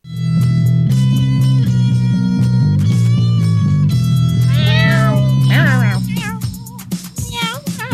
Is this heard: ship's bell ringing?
no